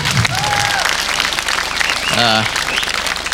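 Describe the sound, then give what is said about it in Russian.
A studio audience breaks into steady, dense applause lasting a few seconds, the clapping loud and continuous, with a brief voiced cheer or call rising out of it near the end. “А почему аплодисментов-то нет?”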